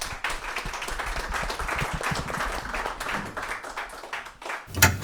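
An audience applauds steadily for about five seconds, a dense wash of many hands clapping, with one sharper, louder clap near the end as it dies down.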